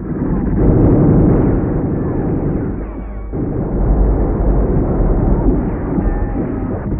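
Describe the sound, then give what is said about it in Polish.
A light artillery cannonade, the First Light Artillery Regiment firing from all its batteries at 6 a.m. on 12 October, rolls on without pause, dense overlapping booms blurring into a loud, low rumble, easing briefly midway before building again. No voices are heard. “Pierwszy pułk artylerii lekkiej otwiera ogień ze wszystkich swoich baterii.”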